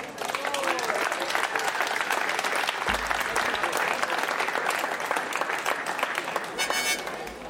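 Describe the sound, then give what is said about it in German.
Sustained audience applause for Bernhard Böhringer, a dense crackle of many hands clapping steadily for several seconds, fairly loud and even throughout. “Applaus für Bernhard Böhringer.”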